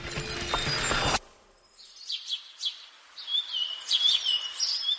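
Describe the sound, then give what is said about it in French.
A brief burst of loud mechanical rattling cuts off, then birds sing alone: bright, high chirps and warbling phrases, growing busier and more continuous toward the end. “Le chant des oiseaux, ça vient d'où?”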